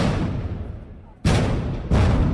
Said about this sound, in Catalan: A Ciutat Vella, els espetecs dels trabucaires han despertat els veïns de bon matí.